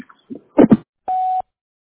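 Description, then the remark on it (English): A few quick spoken syllables of a doctor's office voicemail greeting, then a single steady electronic voicemail beep, a loud, flat mid-pitched tone lasting about a third of a second, followed by silence. “You could please leave a message after the beep.”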